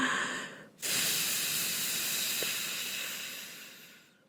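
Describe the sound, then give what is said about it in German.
A brief soft intake of breath, then one long, steady, airy blow lasting over three seconds, blowing many soap bubbles, fading out at the end. “Tief einatmen, denn sonst haben wir nicht genug Luft in der Lunge. Und dann atmen wir aus und pusten ganz viele.”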